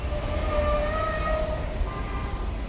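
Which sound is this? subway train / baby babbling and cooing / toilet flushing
subway train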